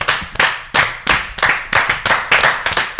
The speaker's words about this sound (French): C'était un superbe applaudissement aussi. On l'a fait tous un peu en même temps, ouais, c'était assez stylé.